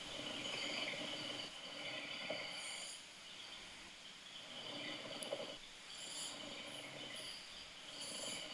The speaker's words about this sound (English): You've got a new one now. Oh, really? This is exciting. This is helicopter snoring.